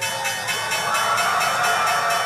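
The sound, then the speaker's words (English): The New York Stock Exchange opening bell rings loudly and continuously, its rapid repeated strikes blurring into a steady metallic clatter, with a faint murmur of voices underneath. “The New York Stock Exchange usually begins the day like this.”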